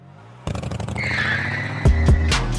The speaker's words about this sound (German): Ich weiß nicht mehr, wie es zu dem Motorrad kam, ob es bei mir irgendwie wieder in Ableton rumflog.